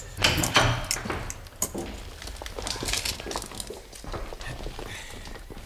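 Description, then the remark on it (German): A door to the evidence room at police headquarters is opened with a series of creaks, clunks and rattling, hollow knocks over several seconds, with no one speaking. “Und jetzt öffnen Sie bitte die Asservatenkammer.”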